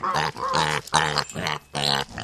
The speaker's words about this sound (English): Researchers say they have created a technology tool that uses pig sounds to interpret different emotions the animal is feeling.